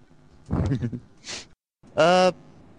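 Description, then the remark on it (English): A short, flat electronic buzz, like a door buzzer, sounds once at steady loudness, preceded by a brief murmur of voice and a soft hiss. “There is someone at the door.”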